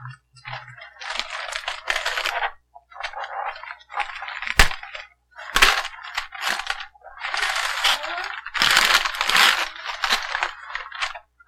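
Wrapping paper on a gift being unwrapped crinkles and tears in repeated rustling bursts, with a few sharp snapping rips in between, continuing steadily without any talking.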